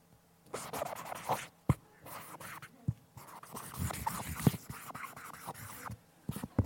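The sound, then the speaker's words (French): A pen scratches across paper in quick bursts of strokes with short pauses and a few sharp taps as someone writes a signature, with a microphone placed on the pen; no voices. “Je vais mettre le micro sur le stylo, comme ça l'audio guide, ils sont contents.”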